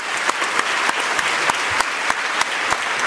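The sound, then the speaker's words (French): People clapping steadily to applaud the French excellence prize awarded to the Mirabelle plum sector, a dense patter of many hands with a few sharper, louder claps standing out at regular intervals, sustained throughout without any talking. “On peut applaudir ce prix, ça, franchement.”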